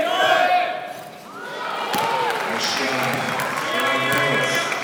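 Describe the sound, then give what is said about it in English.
A loud crowd of Japanese supporters cheers and chants, voices rising and falling in a continuous roar, with scattered claps and sharp thuds breaking through. “That's the Japanese making the cheer.”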